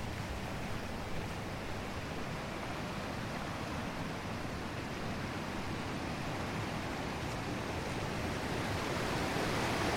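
A fast-flowing river rushes and ripples over rocks and rapids at the bottom of a dell in a steady, dense wash of water noise, continuous throughout, with no voices.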